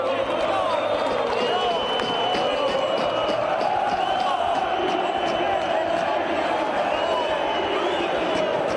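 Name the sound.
football fans chanting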